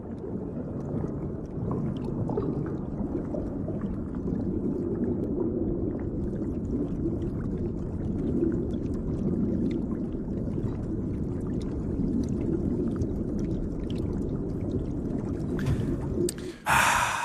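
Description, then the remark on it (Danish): Muffled underwater ambience: a steady, dense low rumble with soft bubbling and clicks running for the whole stretch, no voices, and a brief brighter whoosh just before the end. “inden vi kommer videre, have to minutter, eller ikke to minutter, lige have et lille stykke tid under vand.”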